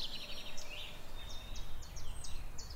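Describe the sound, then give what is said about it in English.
A chiffchaff sings a steady series of high, evenly spaced two-pitch notes, thin over a low outdoor rumble, with no one speaking. “So that's a chiff-chaff.”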